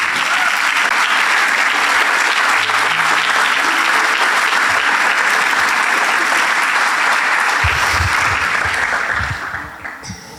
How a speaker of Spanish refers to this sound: Le damos un aplauso a nuestros pastores.